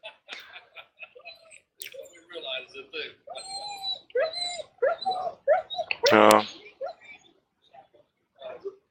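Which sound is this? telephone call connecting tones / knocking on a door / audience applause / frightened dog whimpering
frightened dog whimpering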